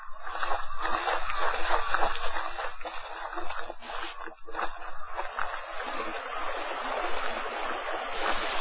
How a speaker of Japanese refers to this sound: 彼らの左手へ沿うように流れる宮川。